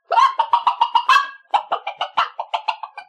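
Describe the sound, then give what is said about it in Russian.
Poultry in a henhouse cluck and cackle in two quick, rhythmic bursts of rapid, repeated calls, loud, with a brief pause between them and no talking. “И курочка даже моргнуть не успела, как очутилась в королевском курятнике.”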